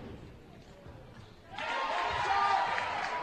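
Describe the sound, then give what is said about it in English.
At a basketball game, a low crowd murmur gives way to a sudden burst of applause after a player makes her free throw late in the third quarter, a dense hissing wash of clapping and cheering that holds steady and fairly loud until the end. “Here from a round of applause, she made it.”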